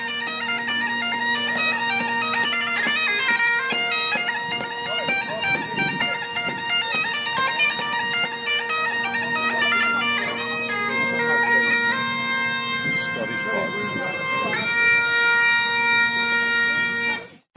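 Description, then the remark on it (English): A busker plays bagpipes in a continuous, loud tune: a steady buzzing drone holds underneath while the reedy chanter melody moves in quick, ornamented notes above it, ending abruptly. “Not only was he busking, but he was busking while playing the bagpipes.”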